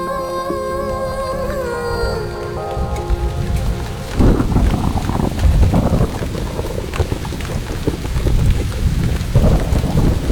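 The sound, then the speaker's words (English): A thunderstorm with steady, heavy rain hissing throughout and deep, loud rolls of thunder rumbling in repeated waves, after a sustained tonal sound fades out in the first few seconds. No one speaks. “We had no sooner collected 8 or 9 when thick, black storm clouds gathered overhead. Let's stand under this tree. The rain won't get through here.”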